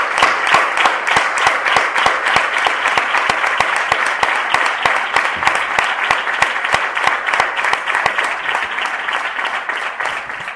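A large audience at the Bienal de Málaga bursts into sustained applause for retired artist La Repompa, dense overlapping claps filling the space at a steady, loud level for about ten seconds with a few sharper claps standing out.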